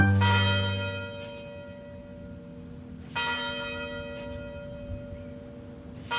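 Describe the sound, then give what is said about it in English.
The University Tower bells of the University of Detroit Mercy in Detroit ring out in slow succession, each strike blooming with rich harmonic overtones that linger and decay, with a new chime sounding roughly every three seconds and no talking. “University Tower chimes ring in another session of Ask the Professor”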